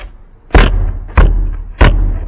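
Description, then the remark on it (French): A horse trained in a circus counting trick stamps the ground with its hoof three times in a slow, steady rhythm, each blow a loud, heavy thud with a low rumble, and no voices. “Et pourtant, à un moment donné, à un signe imperceptible, le cheval arrête de taper par terre avec son sabot.”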